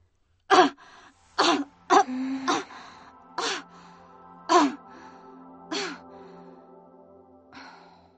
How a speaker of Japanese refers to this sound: まだ咳の止まらない私の背中に手を置いた。